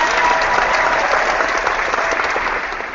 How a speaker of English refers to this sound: Marvel editor Sanaa Aminat promoted to director of content and character development at Marvel. Good for her. Congratulations. Where's the applause?